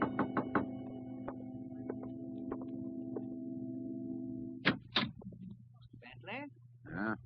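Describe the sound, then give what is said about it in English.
Three quick knocks on a door at night, then a few slower, spaced knocks over a steady low hum, followed by brief clattering and voices speaking. “Two nights later, I was alone, and there was a knock on the door.”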